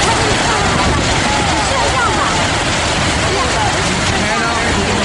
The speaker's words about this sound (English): What about Niagara Falls? This is not static. What I'm going to play now is what it sounds like when you're standing right up next to this massive waterfall.